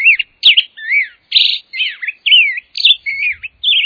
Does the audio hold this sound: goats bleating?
no